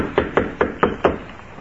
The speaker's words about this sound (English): He stepped aboard the small car and tapped on the door.